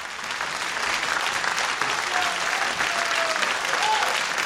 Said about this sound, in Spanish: En ese momento, un montón de fantasmas, momias, peladores de plátanos, mocos verdes con ojos, Frankenstein y vampiros aparecieron para dar un gran aplauso al vampirito.